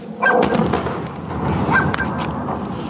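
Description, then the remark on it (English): The explosion of a Russian-made Iranian air defence missile striking a Boeing 737-800 near Tehran Airport, heard on video 11 seconds after impact: a sudden muffled boom that swells into a sustained, rumbling roar lasting a few seconds, over a noisy background with no one speaking. “A projectile streaks up and strikes the aircraft. 11 seconds later, the sound of an explosion.”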